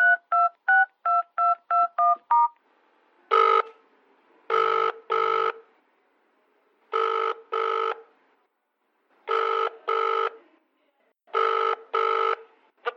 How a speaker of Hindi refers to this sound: दो तीन बार कॉल कर दिया पर कोई उठाता ही नहीं, मुझे फिक्र हो रही है, सब ठीक तो है ना?